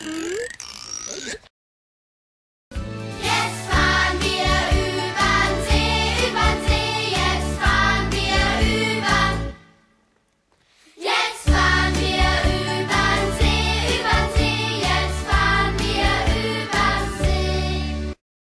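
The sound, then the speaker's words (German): Loud, rhythmic rasping of a male grasshopper stridulating by scraping a ridged rasp on its leg along its wing covers: a buzzy train of rapid scraping pulses that runs for several seconds, breaks off briefly, then resumes just as strongly, with no talking, at a lake in a former lignite mining pit. “Wenn ihr jetzt alle ganz leise seid, dann hört ihr nämlich, wie so eine Raspel am Bein einer Heuschreckenmanns macht.”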